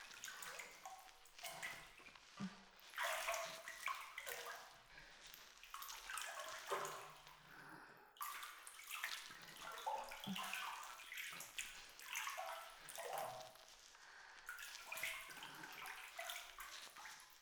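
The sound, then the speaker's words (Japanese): Wet squishing and sloshing as soap is worked into a thick lather with water for washing someone's body at bath time, a steady stream of irregular, bubbly bursts with no voices. “ちょっと待っててな。泡いっぱいあった方が気持ちいいから。”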